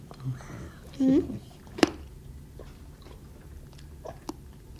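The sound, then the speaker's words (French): Chewing on hard candy, with a couple of sharp, isolated crunches standing out against soft mouth noises and faint low murmuring in the background. “C'est croquant.”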